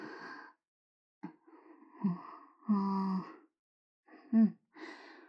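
Heavy panting breaths, five or so breathy exhalations in uneven bursts, several voiced with a low moaning tone, separated by short silences and with no speech.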